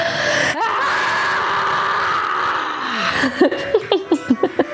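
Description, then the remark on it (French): A loud, sustained scream from more than one voice, after a count to three and an inhale, holds for about three seconds, then breaks into a quick run of breathy, laughing gasps. “Ok, donc je compte jusqu'à 3, on inspire et on crie comme on veut.”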